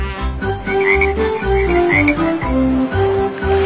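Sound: frogs croaking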